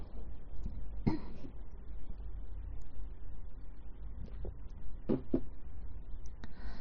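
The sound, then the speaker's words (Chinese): A few short, scattered coughs and throat-clearing sounds, with one near the start and a quick double burst toward the end over a low, steady background hum. “咳嗽心疼，没事没事。”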